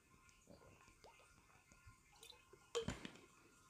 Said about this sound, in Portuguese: E agora que os vai irritar a vocês é eu beber água. Vão ouvir aqui um ASMR de eu beber água. Nem vou desligar o microfone, que eu estou a ficar com a boca seca.